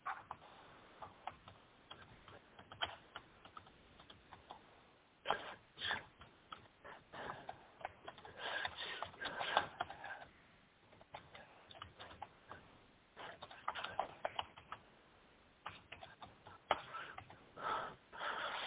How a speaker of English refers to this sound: Just typing here, text the brother here.